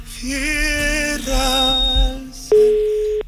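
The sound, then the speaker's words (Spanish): A steady, loud telephone tone of an outgoing call placed from a radio studio sounds alone near the end, following a couple of seconds of wavering electronic tones, with no one speaking. “Automáticamente vamos a llamar, vamos a hacer una nueva llamada.”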